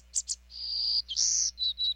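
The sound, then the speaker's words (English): A songbird sings a high, thin phrase: two quick chirps, a long drawn-out buzzy note, then a few short bright whistles, clear over a faint low hum. “Now, this special songbird's future depends on people stepping up to protect our forests, from Nicaragua to Texas.”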